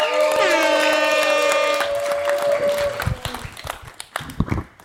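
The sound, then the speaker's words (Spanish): An audience applauds steadily at an outdoor comedy show in an alley, welcoming the night's last comedian, with many hands clapping at once while a bright sustained musical tone sounds over the first few seconds. The clapping then thins into scattered, uneven claps. “Fuerte aplauso para”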